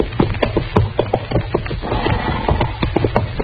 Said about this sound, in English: Darn horse. Seems he's just bound to stomp all the dust in Kansas in my eyes.